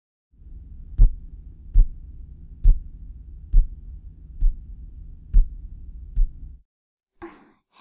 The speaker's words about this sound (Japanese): 揉みほぐしたところで、肩トントンしていきますね。組み合わせた両手で、まずは右からトントントン。